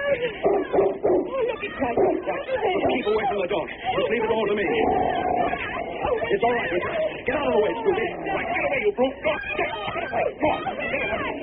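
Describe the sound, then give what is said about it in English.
A big dog barks and yelps as it goes for two men in a busy scuffle, its sharp calls tangled with loud overlapping crowd chatter and commotion that continues throughout. “dog! Look, it's going for them.”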